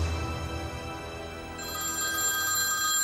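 A telephone bell rings steadily over a low background rumble, its bright tone growing louder and more sustained in the second half, with no one speaking.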